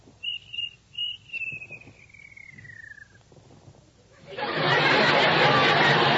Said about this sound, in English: Ask him nicely. Please, Mr. Cricket, George has work to do. Won't you please be quiet?